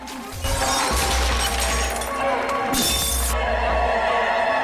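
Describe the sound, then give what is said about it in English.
Loud glass shattering as a man smashes up a bathroom, amid a continuous clatter of smashing and breaking, with a sharp, bright crash of splintering glass peaking late before the debris keeps rattling. “He smashes up the bathroom.”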